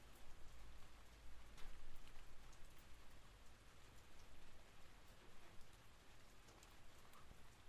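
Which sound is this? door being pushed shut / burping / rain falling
rain falling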